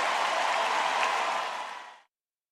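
Dense, steady applause from a concert audience at Madison Square Garden, a broad hiss of many hands clapping together for about two seconds before quickly fading out. No voices can be heard.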